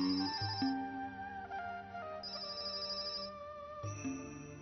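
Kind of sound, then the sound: signal or alarm, telephone ringing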